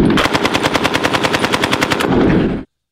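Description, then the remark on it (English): Rapid automatic gunfire rattles in a steady burst of evenly spaced shots, loud and close, ending with a heavier rumbling blast before cutting to silence. “Could you please release the bar with a few explosions?”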